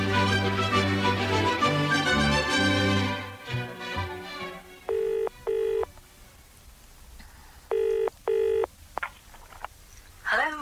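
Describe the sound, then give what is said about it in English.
A short burst of music fades out, then a telephone ringing tone sounds twice in the familiar double-pulse pattern, clear, with brief dialing clicks near the end. “I'm ringing to find out if you've seen anything of Kenton this morning.”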